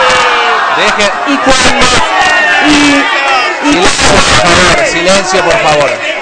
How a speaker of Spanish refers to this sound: Es muy difícil, o sea, se hace difícil poder explicarle a la comunidad lo que se intenta hacer con este proyecto cuando uno quiere hablar y los presentes nos gritan, y cuando los otros hablan.